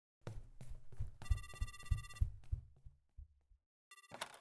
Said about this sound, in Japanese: うそ、フロントから電話だ。